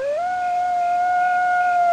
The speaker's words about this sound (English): A coyote's trying to locate her pack.